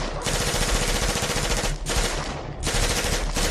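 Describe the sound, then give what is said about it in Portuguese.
Submachine gun fire in long, rapid bursts, loud, with brief pauses between volleys and dense rattling shots packed tightly together. “Pegou a submetralhadora, apontou e continuou.”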